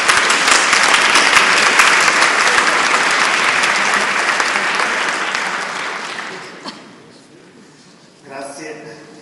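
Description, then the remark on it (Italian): An audience claps steadily in a dense, loud wash of applause welcoming a professor at a talk, fading out after about six seconds, followed by a brief voice speaking in the quiet. “poi facciamo un applauso”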